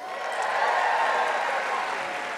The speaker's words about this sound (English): Thank you for the clap, and it's fine.